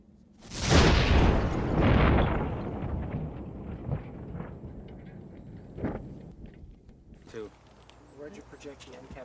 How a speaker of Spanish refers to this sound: Rápidamente se hace evidente lo destructivas que pueden ser estas pequeñas bombas de tubo. Esta explosión fue tan poderosa que parte de la caja de cartón perforó la puerta de acero del auto.